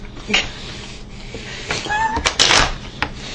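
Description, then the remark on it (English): A cat gives a short meow in the middle of rustling and a few sharp thuds as it gets into a purse. “We have a narcoleptic, or we have a narcoleptic kitty.”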